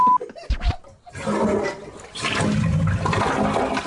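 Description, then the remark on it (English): A toilet flushes, a short clunk followed by a loud, steady rush of swirling water lasting several seconds, with no one speaking. “Flush your sorry season down the toilet, Steelers.”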